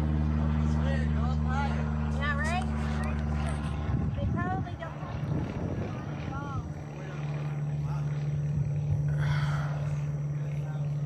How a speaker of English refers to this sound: You can hear the airplane again. He's still buzzing around.